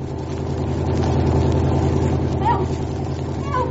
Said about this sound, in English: Here comes the car now.